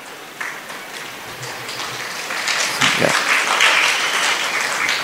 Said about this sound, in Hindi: सो हमने ताली बजाया है, मैं सोच रहा था हमने ताली बजाया, जितना जोर ताली में लगाया है उतना जोर भक्ति में करना चाहिए, उतना हमें सरेंडर कृष्ण को करना चाहिए